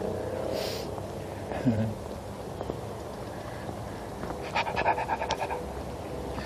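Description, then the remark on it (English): A little beagle pants in quick, breathy bursts while out on a morning walk, with scattered rustling and outdoor background noise, and a brief higher squeak partway through. “Good morning, happy dog. Oh yeah, he's out for a walk.”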